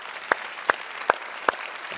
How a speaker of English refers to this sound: We're just gonna welcome you by warm round of applause. So there we go.